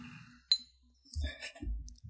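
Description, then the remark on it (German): Glasses clinking in a toast: one sharp, bright clink, then a few moments later a cluster of higher ringing glassy tones over low dull knocks. No one speaks. “Sollen wir mal anstoßen?”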